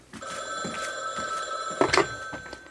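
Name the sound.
telephone bell ringing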